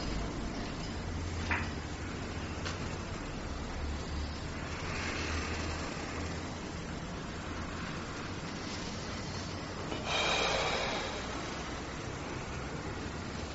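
Slow, breathy airflow sounds of deep inhaling and exhaling during a guided breathing exercise rise and fall over a steady hiss of background noise, with a louder inhale-like rush near the end. No one speaks.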